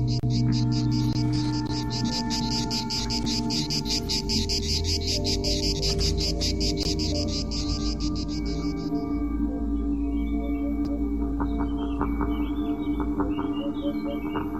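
Cicadas chirp in a dense, rapidly pulsing high buzz that fills the first part and then fades out, leaving faint scattered chirps over a steady low outdoor rumble.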